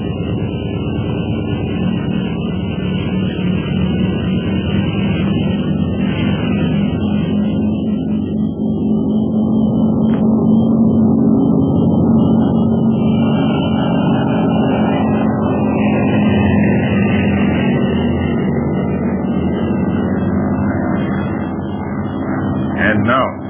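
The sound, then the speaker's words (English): A loud, steady aircraft engine drone holds for over twenty seconds as the plane takes off, a low rumble with humming tones layered on top. “Fasten your safety belt, Kuan Yu. I'm about to take off.”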